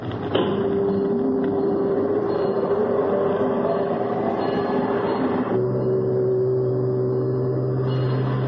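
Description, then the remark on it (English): A fog signal whistle blows in one long, steady, low-pitched tone, loud and unbroken, over a heavy mechanical rumble that deepens partway through; ships can pick up the signal as far as 14 miles away in perfect weather. No one speaks. “Start the whistle, Chief.”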